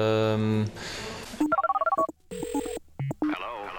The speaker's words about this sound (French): Quand le téléphone va, je le prends, je dis qui est là, qui est à l'appareil.